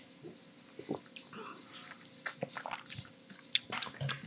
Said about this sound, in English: Round two of mudslides. Rocks. Fancy edition. Ooh. Same, except for less Kalu. And the, yeah, the vanilla. Sips.